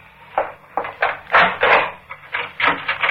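A door is unbolted and opened: a run of sharp wooden clunks and scraping rattles, some louder than others, with no voices.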